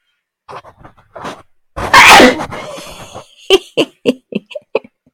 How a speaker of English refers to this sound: I have a sneeze coming.